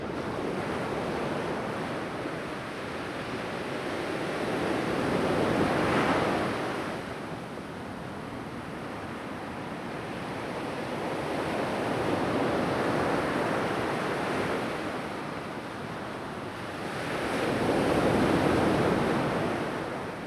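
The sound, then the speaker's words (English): Sea waves at Borgarsandur, a black sand beach, roll in and break in a slow, steady rhythm, each surge swelling into a broad wash of surf before easing back, with a constant windy hiss underneath, no seagulls and no voices. “I'm listening out for and sort of expecting seagulls, or their Arctic equivalents maybe, to be diving and bombing, but none, nothing, just the sound of the sea.”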